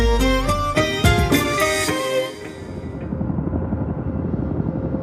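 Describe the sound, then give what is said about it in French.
A military helicopter's rotor and engine, kilometres from its target, roar loudly at first with a pulsing, whining drone, then the sound drops and fades into a lower, steady rumble as the craft recedes. “Les hélicoptères sont à des kilomètres de leur cible.”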